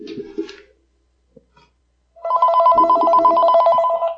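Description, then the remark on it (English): After a short quiet gap, a telephone starts ringing loudly with an incoming call from someone phoning in, a steady electronic trilling ring that continues to the end. A brief low sound comes before the gap. “Okay, speaking of the Ukraine, let's see if we actually have someone on the phone here.”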